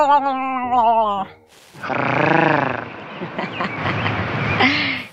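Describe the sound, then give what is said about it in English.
A voice imitates Eartha Kitt's signature rolled-tongue purr without rolling the tongue, starting with a short wavering hum, then after a brief pause a longer, louder growly rumble that rises and falls over about three seconds. “She had this signature purr that she would do in every episode. I will try and recreate it for you, but she rolls her tongue, and I can't roll my tongue.”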